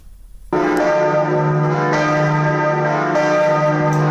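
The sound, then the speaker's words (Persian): The new bells of Notre-Dame cathedral in Paris, France, ring out loudly after a brief quiet moment, sounding again after more than five years of restoration. Their deep, rich tones overlap in a sustained, reverberant peal, with fresh strikes swelling every second or so. “صدای ناقوس‌های کلیسای نوتردام پاریس که پس از گذشت بیش از 5 سال بار دیگر در مرکز پایتخت فرانسه تنین انداز شده است.”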